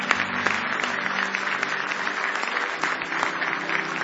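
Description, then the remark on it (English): A church audience gives a hand clap of praise to Jesus, clapping steadily in a dense wash of many hands at even loudness for several seconds, with a faint low hum underneath and no clear voices. “Give Jesus one more hand clap of praise.”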